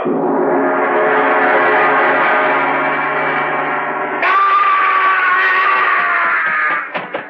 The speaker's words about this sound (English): Is that you, Kettridge? Yes. I heard a scream. Yes, so did I. It sounded like Sheldon.